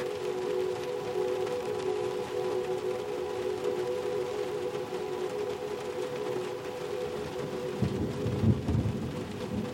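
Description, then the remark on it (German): Steady, soft rain hisses evenly throughout, layered with a sustained humming drone, and a low rumble of thunder swells briefly near the end. “Der Regen ist jetzt nur noch ein sanftes, gleichmäßiges Rauschen, das dich trägt.”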